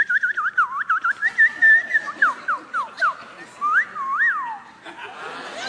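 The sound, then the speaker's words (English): A person whistles a birdsong imitation: quick chirping trills and warbling slides, then several swooping downward whistles and a couple of rising-falling calls, fairly loud, with no talking. “And you'll look, and the birds will.”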